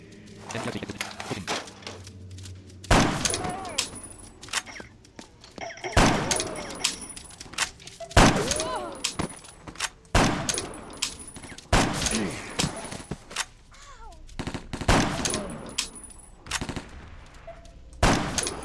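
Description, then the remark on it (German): Video game sniper rifle fire: about seven loud, sharp shots spaced roughly two seconds apart, each followed by a ringing, echoing tail over quieter game noise. “Snipen zu können zahlt sich irgendwann aus.”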